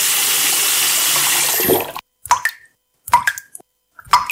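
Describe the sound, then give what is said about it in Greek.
A tap runs in a steady rush of water for about two seconds, then cuts off, leaving three distinct drips plopping at roughly one-second intervals. “Μην κάνεις πως δεν τρέχει τίποτα.”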